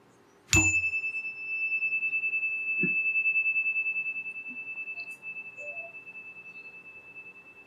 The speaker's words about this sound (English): Let us now have a moment of silent meditation. I'll ring the chime and again end our embrace of silence.